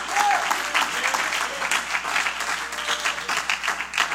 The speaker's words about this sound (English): You ought to clap your hands again to Jesus.